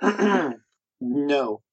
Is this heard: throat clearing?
yes